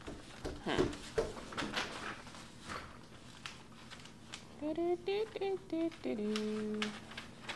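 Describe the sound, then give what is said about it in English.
A sliding patio door is tugged and rattled several times, with sharp knocks and scrapes, followed by a few high squeaky, voice-like tones. “You pulling on the patio door?”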